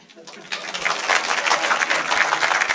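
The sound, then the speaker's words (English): A crowd breaks into applause when asked how many people have friends who are idiots: dense overlapping clapping that swells quickly after a quiet start and holds steady and loud, with a few whoops mixed in. “By applause, how many people in this room have friends who are idiots?”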